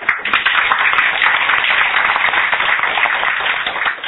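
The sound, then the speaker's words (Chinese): An audience of many people claps steadily for about four seconds to welcome a professor giving an evening lecture, a dense, even crackle of many hands at a constant loudness, with no voices heard. “啊，咱首先想用这个上一个这个掌声来欢迎咱今日这个吼讲者老如虹教授。”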